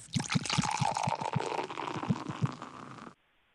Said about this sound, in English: Hey, can I get a Modelo poured? Can we get him a beverage and a Ferrella bottle?